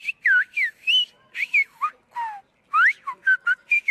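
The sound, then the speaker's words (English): A whistled language used for long-distance communication rings out on La Gomera in the Canary Islands, Spain, in a rapid series of sharp, gliding whistles that rise and fall in pitch, loud and clear with short pauses between bursts, like a coded call carried across distance. “We would suddenly be kings, he says, because they'd be masters, once again, of the only means of long-distance communication, whistling the day's news and necessities, just like their ancestors.”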